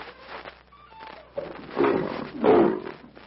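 A lion roars twice, each a deep rumbling growl swelling loud before fading, the second roar slightly stronger than the first, with no talking.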